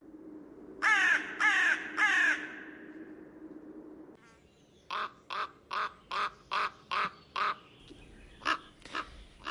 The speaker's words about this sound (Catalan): escoltem dos ocells que sonen diferent i no pas precisament de manera melòdica, oi? Sí, no són gaire melòdics. Són dos còrvids. El primer que sentíem és una cornella que fa aquest grall, aquest soroll de gra, gra, així més llarg